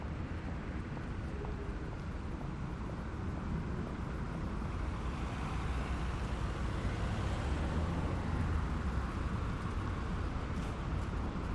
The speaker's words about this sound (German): Wenn ich angekommen bin, beim Zebrastreifen rechts von mir, warte ich, bis die Autos stehen bleiben und gehe hinüber auf die andere Straßenseite.